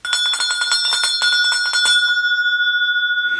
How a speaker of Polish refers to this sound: Teraz poproszę o dzwoneczek.